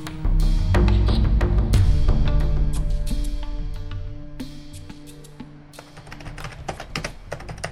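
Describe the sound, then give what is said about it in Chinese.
Rapid, irregular clatter of excited typing on a computer keyboard in an office, crisp, over a swelling background music bed that starts loud and gradually fades. “办公室里，庞建兴奋地敲打着键盘，激动不已”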